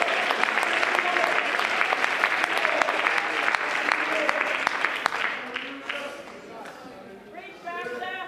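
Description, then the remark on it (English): A church audience at a Palm Sunday service claps their hands together in sustained, dense applause, then thins out as voices rise and call out over the final seconds. “Oh, if you believe that, as you clap your hands, would you lift your voice and say, thank God for the church.”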